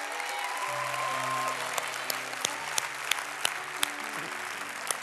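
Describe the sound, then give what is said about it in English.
An audience claps steadily for several seconds, a dense wash of handclaps with a few sharper individual claps standing out, while low sustained musical tones play underneath. “Come on, give them a big, big clap.”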